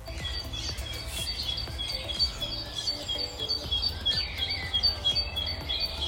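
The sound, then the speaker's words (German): A busy chorus of morning birdsong, recorded on a mobile phone early in the morning while walking to the school bus, with many overlapping chirps and short whistled phrases at high pitch over a steady low background hum, continuous and moderately loud with no talking. “Das habe ich heute früh mit meinem Handy aufgenommen.”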